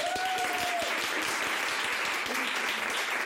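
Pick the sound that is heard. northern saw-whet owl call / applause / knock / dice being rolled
applause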